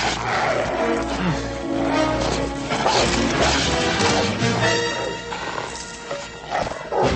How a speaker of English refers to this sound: A guard dog approaches. Lucky for Paul, the chain holds him back.